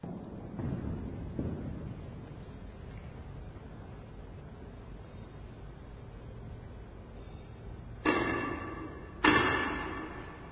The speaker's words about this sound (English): Yeah, they bang their staff, their wand. I don't know if wand is the right word, but basically, you know, they have an impressive word for that thing that they bang on the ground just to say, hey, we need to do something now.